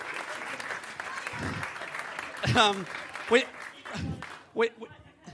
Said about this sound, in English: Could you please put your hands together and welcome to the stage